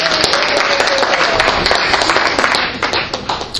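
A burst of audience applause, dense and steady with many hands clapping at once, loud throughout before thinning and tapering off near the end.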